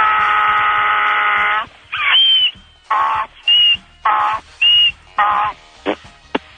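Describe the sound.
A person imitates a donkey's bray: a long droning note, then loud alternating bursts of high squeals and lower rough honks in a steady hee-haw rhythm, ending in two short sharp squeaks.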